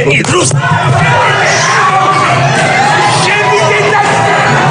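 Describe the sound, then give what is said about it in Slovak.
A loud, chaotic crowd of many voices shouts and yells over one another in a sustained heated uproar in the Georgian parliament over a law on non-governmental organizations, with overlapping bellows and cries filling the whole stretch without pause. “Takéto vášne vzblkli v gruzínskom parlamente kvôli zákonu o mimovládkach, a.k.a.”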